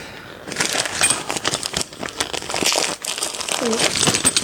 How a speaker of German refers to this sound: Es klickert wie die Rentiere. Raschelt das eigentlich zu doll für einen Podcast?